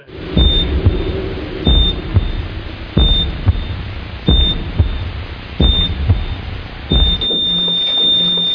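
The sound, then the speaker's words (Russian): A heart monitor in an operating room beeps steadily during surgery, about once every second and a bit, each beep paired with a soft low thump, then switches to one continuous flat tone near the end as the pulse is lost. “Биение сердца на мониторах, операция прошла.”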